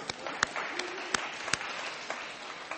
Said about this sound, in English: Can you imagine teenagers, okay, washed, ready, up for breakfast, 7 o'clock every morning? They deserve a clap, they really do.